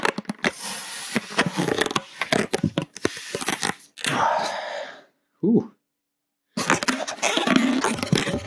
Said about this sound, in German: Ich kann, während die Aufnahme läuft, auch einen Luftballon aufpusten.